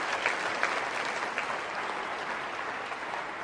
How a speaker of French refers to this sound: Est-ce qu'on peut applaudir ensemble la puissance? La puissance du rêve de Dieu.